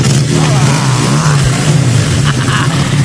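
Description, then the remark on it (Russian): A loud racing car engine revs steadily, a strong low droning roar with rising pitch surges near the end, and no voices. “Просто замечательный звук. И весь офис дождя уже в выхлопах газа.”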